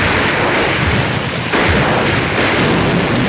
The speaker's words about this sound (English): As explosions send billows of smoke into the air, Alvin hustles past men shooting back at the Germans. Two bombs hit the ground, knocking nearby soldiers off their feet.